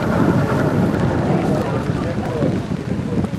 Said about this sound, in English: It's pouring with rain, but anyway, it was worth it.